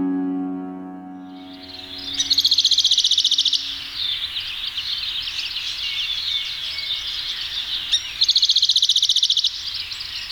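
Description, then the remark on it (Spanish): A canyon towhee (Melosone fusca), a passerine of the family Emberizidae measuring 19 to 21 cm long, gives two loud, rapid chipping trills a few seconds apart, over a steady bright hiss of background birdsong, after a brief fading musical tone at the start. “Toqui pardo, rascador o viejita. De nombre científico Melosone fusca, del orden Passeriformes y la familia Emberizidae.”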